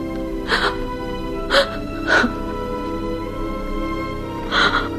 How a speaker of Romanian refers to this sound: Nu plânge, prietena mea.